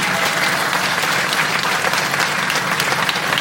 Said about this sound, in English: Give this gentleman a round of applause as well.